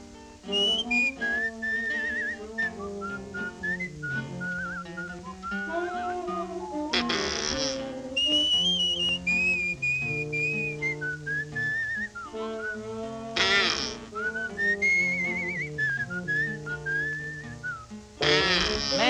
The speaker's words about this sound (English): That sounds like a plain old bird to me.